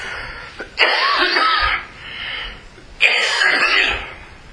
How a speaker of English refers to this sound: Because I cannot stop coughing all of a sudden.